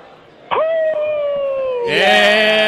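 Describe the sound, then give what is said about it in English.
A person lets out a long, loud howl, starting with a sharp rise, holding a steady sustained tone, then swelling louder and brighter toward the end. No talking accompanies it. “but can you please howl?”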